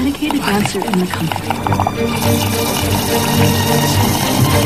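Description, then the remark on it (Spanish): Someone slurps Coca-Cola through a straw while watching a film, a wet, gurgling suck that rises and sputters over several seconds, with murmuring voices and background sound underneath. “A ver, está usted sorbiendo ya demasiado, que yo quiero ver la película.”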